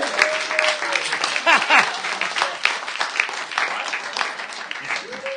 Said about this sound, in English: Someone booed there. That's a dangerous thing to try. Was that the fucking tax inspector?